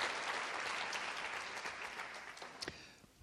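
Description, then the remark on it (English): Steady applause from an audience, a dense wash of many hands clapping at moderate volume, holding evenly before tapering off near the end with a few louder individual claps. “That was not an easy thing to do, and that wasn't something that everybody was excited about happening, but that nonetheless that happened, and something that I think deserves the applause that it is achieving here.”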